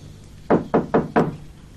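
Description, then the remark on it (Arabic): Four firm knocks on a door, evenly spaced in a quick steady rhythm, clear against a quiet background with a faint low hum. “تفضل، الباب مفتوح.”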